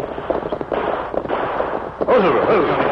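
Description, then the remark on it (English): A dense volley of gunfire, shots cracking rapidly and irregularly, growing louder near the end, where a wavering higher tone rises through the clatter; the shooting is just over a ridge, about 2 miles from the Indian reservation in the Rainbow Hills. “Hear that gunfire, Tonto?”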